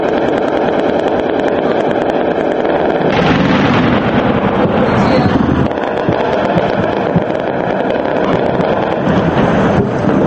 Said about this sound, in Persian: صدای ماشیندارهای دافع هوا بدون اینکه منابع آن شناخته شود در پایتخت ترابلس شنیده شد.